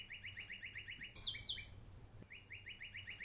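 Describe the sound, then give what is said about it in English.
Birds chirp in a quick, steady series of repeated calls, broken by a couple of brighter, sweeping tweets midway, over a low background hum with no voices. “What are the birds?”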